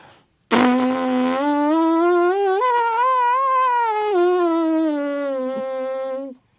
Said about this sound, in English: And now what you do is you take a breath in, and you attempt to blow that seed away, but keep your lips open at the same time, and you get what we call the buzz.